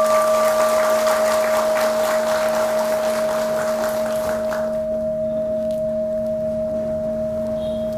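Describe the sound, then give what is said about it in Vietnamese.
An audience at a Buddhist teaching talk breaks into dense, crackling applause that lasts a few seconds before quickly dying away, while a steady electronic hum drones underneath throughout. “Nếu quý vị cảm thấy là bốn điều này không khó làm lắm á, thì hãy cam kết bằng một tràng vỗ tay thật lớn.”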